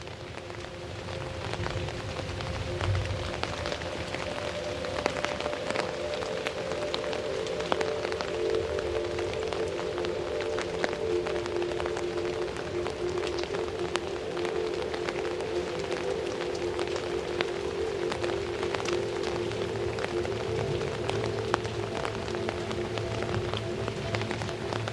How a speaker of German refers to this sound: Deine Augen schließen sich nun endgültig für diese Nacht, während der leicht schimmernde Regen weiter seine beruhigende Melodie spielt.